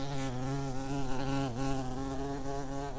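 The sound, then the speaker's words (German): A bee buzzes steadily for about three seconds, its droning hum wavering slightly in pitch, with one brief dip midway and no voices. “Das Wort gleicht der Biene. Es hat Honig und Stachel.”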